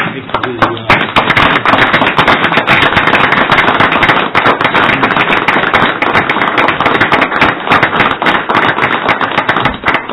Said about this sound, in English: And with that, I'd just like to stand and give you an applause for everything you've done.